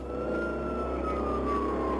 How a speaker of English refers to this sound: Once I heard the sirens coming, I ran down to the street.